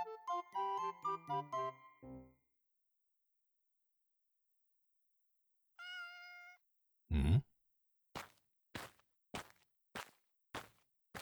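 A single short cat meow rings out clearly after a brief run of chiming notes, followed by a thump and a series of rapid soft taps; no one speaks.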